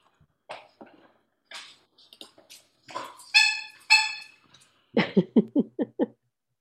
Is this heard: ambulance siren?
no